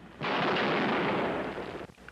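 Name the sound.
gunshots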